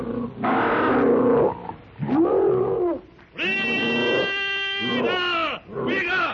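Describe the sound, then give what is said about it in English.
Two prehistoric monsters, leaping from a pit and charging with fangs bared, give loud, harsh shrieks and roars in several long bursts, some rasping and low, others rising into strained, high-pitched wails with strong overtones, separated by brief pauses. “With crooked fangs bared, wicked red eyes gleaming with rage, they shriek their blood-curdling challenge.”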